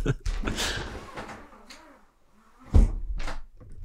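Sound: window being closed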